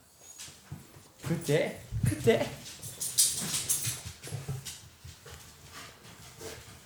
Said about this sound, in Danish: wow, hej hund. Kom der lige en hund. Så kom der lige en hund.